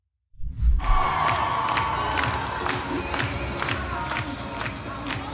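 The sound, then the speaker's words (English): A large crowd cheers and whoops loudly, with steady clapping pulsing underneath, a dense continuous roar that starts abruptly and holds for several seconds, as a drag performer in a giant blue fright wig dances in the middle of the Minnesota State Capitol. “Yep, that's a dude dressed as a lady in a giant blue fright wig, gyrating around, and people cheering and clapping in the Minnesota state capitol.”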